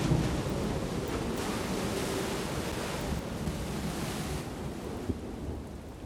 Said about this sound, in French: Je me réveille. L'orage continue. Il y a un bruit nouveau. Le bruit de la mer sur les rochers.